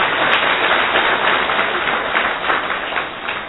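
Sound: audience clapping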